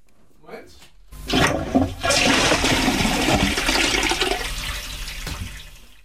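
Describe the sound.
A toilet flushes with a loud rushing burst of water that swirls steadily for several seconds, after a brief muffled voice at the start.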